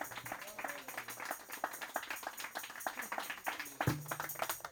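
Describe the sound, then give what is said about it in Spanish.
An audience breaks into sustained applause for the Lord, many hands clapping in a dense, steady patter for several seconds, with a brief voice rising out of the crowd near the end. “Denle un fuerte aplauso al Señor de señores.”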